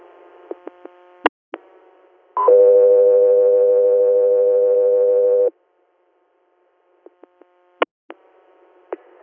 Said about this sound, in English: Hotel 3 Air, standby for tones.